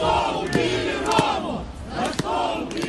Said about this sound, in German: Warum musste Roman sterben? Skandieren sie im November, am Tag der Beerdigung von Roman Bondarenko. Tausende haben sich eingereiht, um Blumen vor der Kirche abzulegen, in der der Trauergottesdienst stattfindet.